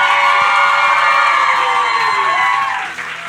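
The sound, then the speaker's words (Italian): A live crowd erupts in loud, sustained cheering and applause welcoming a guest onto the stage, with whoops and high shouts layered over dense clapping that begins to fade near the end. “Vi chiedo un enorme applauso per dare il benvenuto sul palco”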